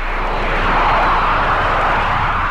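A jet airplane roars past with a steady, broad whooshing rumble that swells slightly in the middle, loud and continuous, with no voices.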